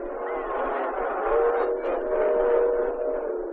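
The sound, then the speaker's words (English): A train rumbles steadily, its dense roar swelling slightly as it approaches, with faint horn-like tones threading through the noise. No one speaks. “No, there's a train.”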